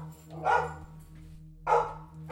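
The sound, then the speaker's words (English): Two loud dog barks, spaced about a second apart, sound over a low steady electrical hum, with no one speaking. “My darn dogs...”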